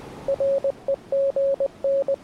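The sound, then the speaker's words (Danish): Telegraph beeps: a steady mid-pitched tone keyed on and off in a Morse-like pattern of short dots and longer dashes, clear and alone over a soft hiss, about a dozen pulses. “Telegrafen. Det er lidt som en meget simpel telefon, hvor kun bip-lyde kan komme igennem.”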